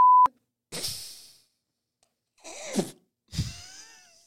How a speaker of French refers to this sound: Moi, hey, en passant, yo, on va le biper, mais juste te le dire.